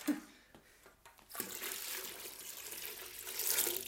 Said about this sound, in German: Ah, jetzt kommt da Wasser. Da war ein bisschen Wasser.